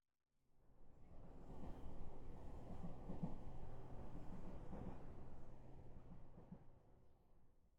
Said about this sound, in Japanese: 電車、ゆっくり進んでいくね。二人でこうして揺られていると、振動が気持ちいいよね。